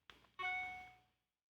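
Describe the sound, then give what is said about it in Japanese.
An iPhone's default email notification sound: a soft click followed by a bright, bell-like electronic chime that rings out clearly and fades over about a second, with no voices. “今のは、iPhone のメールの通知音、デフォルトの通知音ですけれども、こういう音ももちろん誰かが必ず設計して作っているわけです。”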